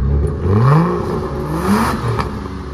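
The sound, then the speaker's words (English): A racing car engine revs up loudly during a race on a circuit, its pitch climbing in rising sweeps, dipping, then surging again in a steady, aggressive roar with no voices. “experiences an adrenaline rush as the engine revs up”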